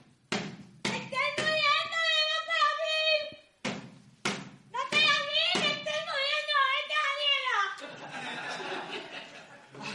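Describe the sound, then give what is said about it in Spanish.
Several sharp knocks on a door, a quick cluster and then a few more spaced out, while a voice holds long wavering, sung-like tones over them, ending in a noisy rustle. “Suena la puerta.”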